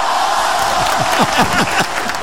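A burst of crowd applause with dense clapping and a few whoops, loud and steady throughout the short stretch, sounding like a canned audience clap effect.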